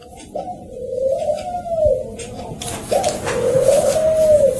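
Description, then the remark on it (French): Two long, low cooing calls from a dove, each a soft rising-and-falling hum lasting over a second, with a faint hiss of outdoor background behind them. “Ça, c'est les oiseaux de la paix, ça, c'est symbolique, hein.”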